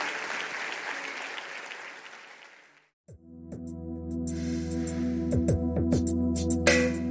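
loud applause

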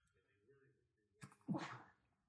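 sneeze

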